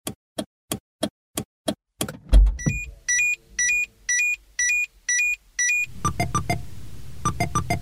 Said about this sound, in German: Aber man hat dieses Geräusch, das ist klassisch Blinker, ist aber erlernt für uns, das verbinden wir damit.